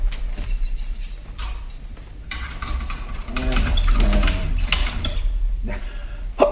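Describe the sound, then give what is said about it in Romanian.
A key turns in a door lock, with a few metallic clicks and rattles over several seconds. There's a ratcheting scrape and a final clunk as the bolt slides shut. “să închid ușa cu cheia.”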